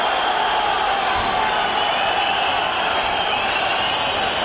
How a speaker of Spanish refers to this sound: Bronca tremenda, repito, en el estadio del Sporting, sí, sí. Con el Sporting 0, Córdoba 0, esto grita el Molinón.